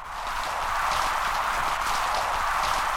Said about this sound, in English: This is just sound recorded off of a reef about an hour or two after sunset. And the noise is mostly sea urchins and snapping shrimp. A lot of the pops are probably the snapping shrimp. And both of these things tend to come out at night.